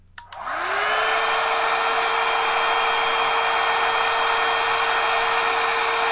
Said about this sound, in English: Okay, and so you see in regular talking, I'm running between 80 and 90 dBs. And here's our dryer.